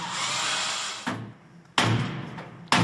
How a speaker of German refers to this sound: Jetzt ist der Mann vom Schlüsseldienst gefragt. Der Zollfahndungsdienst hatte ihn vorsorglich bestellt. Die Tür wird gewaltsam geöffnet.